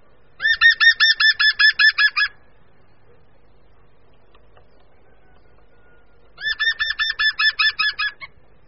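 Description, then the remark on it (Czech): A green woodpecker gives its loud, multisyllabic laughing call, used in spring to make its presence known: a rapid run of about ten ringing notes, then after a pause a similar burst of evenly spaced, slightly falling syllables. “Během jara dávají žluny zelené najevo svou přítomnost hlasitým mnohoslabičním křikem.”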